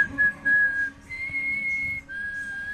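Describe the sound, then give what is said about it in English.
A signal whistle for steam fire engine number 1 sounds three long, steady, high-pitched blasts with short gaps, the middle blast pitched slightly higher, over a low rumbling background. “But passing on signals was always my strong point. For example, steam fire engine number 1!”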